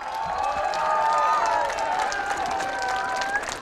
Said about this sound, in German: Dieser Applaus gilt dem Staatschef.